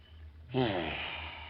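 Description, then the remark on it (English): A single long sniff through the nose at a gardenia flower, opening with a brief voiced catch and then a steady breathy inhale that holds for about a second against a quiet low hum. “You know, I always sniff a gardenia before I kill a guy.”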